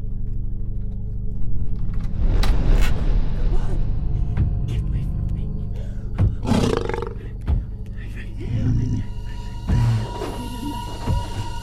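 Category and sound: animal, mountain lion roaring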